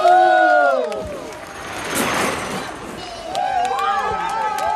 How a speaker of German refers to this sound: Jubel brandet auf, 44 km/h blinken auf der Anzeige.